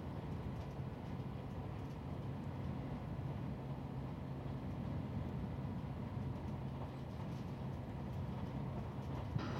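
A train rumbles steadily along the rails as it approaches its terminal stop, Matsuyama, Japan, heard from inside a carriage: a dense low drone with faint rhythmic clatter that stays even and continuous throughout, with no voices.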